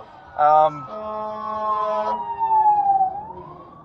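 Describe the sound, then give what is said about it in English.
A fire truck siren passes by: a loud horn blast, then a steady high wail that slides downward in pitch as it moves away, over low road rumble. “Anyway, so I got a fire truck going by me here.”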